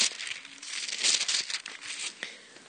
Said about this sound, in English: One more flip of the pages, please.